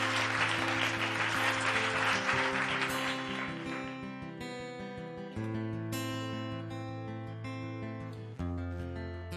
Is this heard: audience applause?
yes